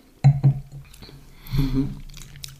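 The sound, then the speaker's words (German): Two quick glass clinks ring out as wine glasses are touched together in a toast, followed by soft rustling and faint sipping sounds. “Prost. Man soll den Wein achten.”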